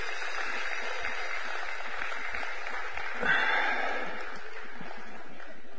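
An audience clapping steadily for the kids and youth as they leave through the door, a dense, continuous patter of many hands that holds at an even, moderate level for several seconds without any voices standing out.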